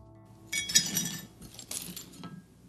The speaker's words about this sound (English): Somewhere between the dishwasher and the cupboard shelf, a wine glass breaks. Maybe I swing wide and tap the counter edge. Maybe it's slippery and I just drop it.